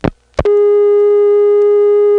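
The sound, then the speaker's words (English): A steady, buzzy telephone dial tone from a North Electric switch in the United States, rich in harmonics, starts after two short clicks from the line and holds unbroken at a constant, loud level. “That's a fairly exotic dial tone for the United States.”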